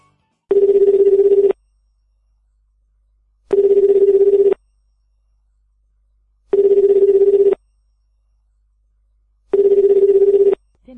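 A telephone ringback tone repeats four times, each steady buzzing burst about a second long separated by roughly two seconds of silence, clear with no one talking, as an outgoing call is placed to a guest.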